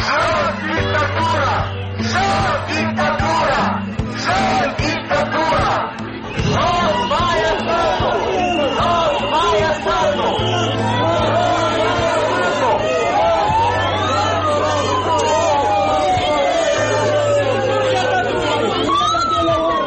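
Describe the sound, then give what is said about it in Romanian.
A dense crowd of protesting members and supporters of the Șor Party chatters and calls out loudly and continuously in front of the Parliament, demanding the resignation of the government and President Maia Sandu, with a steady low drone underneath and a siren-like wail gliding up and down in the background. “unde joi s-au adunat să protesteze din nou membrii și simpatizanții ai Partidului Șor, cerând demisia guvernului”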